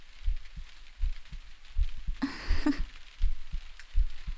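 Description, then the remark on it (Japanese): A steady heartbeat thumps low, roughly two beats per second, with a brief soft rustle of fabric breaking in partway through. No voices. A person's heartbeat heard by someone resting on their chest. “そうか、心臓の音を聞こえるか。”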